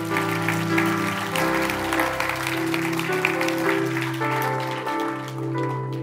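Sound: audience applauding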